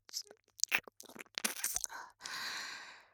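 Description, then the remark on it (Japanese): Wet ear-licking mouth sounds: a quick run of soft smacks and sticky clicks, followed by a long, breathy, rushing exhale. “このイケメンめ、お耳を舐めてあげるから。”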